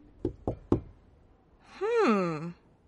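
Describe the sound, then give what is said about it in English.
Three quick, evenly spaced, solid knocks on a farmer's wooden door by an old woman out in the snow, followed by a brief voiced murmur that rises and falls, like a puzzled hum. “The farmer undid the latch of the door and found a spindly old woman shivering in the snow.”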